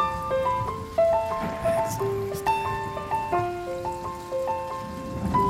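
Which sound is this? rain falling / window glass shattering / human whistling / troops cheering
rain falling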